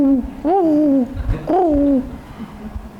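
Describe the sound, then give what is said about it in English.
A man's voice imitates a pigeon's cooing with two drawn-out, warbling coos that swell and fall. The coos are fairly loud, separated by a short pause, with quiet background afterward. “And those of us from Jersey and New York, and pigeons sit and go like this.”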